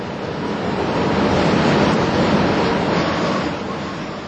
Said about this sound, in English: Hark at the wind rising. There's somewhat foreboding.